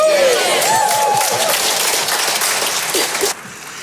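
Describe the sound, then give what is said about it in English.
A church crowd bursts into loud, dense applause mixed with cheering and a high whoop early on, the clapping roaring steadily before dropping off abruptly near the end. “If you'll get saved today, if you want to give your life to Jesus Christ, I am telling you this crowd will celebrate.”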